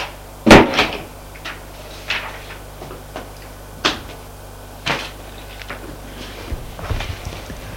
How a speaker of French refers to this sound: La bonne ouvre la porte. Elle laisse entrer.